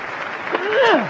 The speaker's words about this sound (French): Vous êtes en train d'assister au pire match de tennis jamais vu, que ce soit sur console ou dans la vie. Ah 40 love. Et ils applaudissent pour ça, bah dis donc.